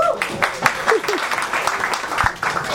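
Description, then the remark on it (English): An audience at a yeshiva claps steadily, a dense wash of overlapping hand claps, with a few voices murmuring and calling out underneath. “The guys who are clapping are the guys who are here every week.”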